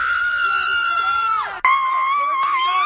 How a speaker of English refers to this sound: Girlfriend is posting yelling, screaming videos after the game.